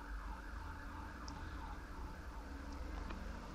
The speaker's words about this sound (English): So about all these sirens here.